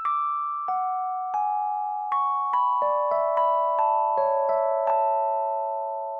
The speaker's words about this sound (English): And we feel the motion towards that getting closer and closer every time that cell phone ring restarts.